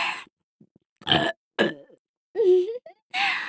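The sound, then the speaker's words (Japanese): A series of short, throaty burps, four or five separate bursts with brief pauses between them, one longer with a wavering low pitch. “エロすぎゲップたまりませんね。”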